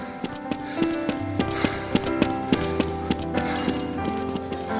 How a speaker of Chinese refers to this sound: 人们缓缓地走在软堤河畔，大口呼吸着早晨的新鲜空气，人群中不时有晨跑者穿过人群，留下一串整齐的脚步声。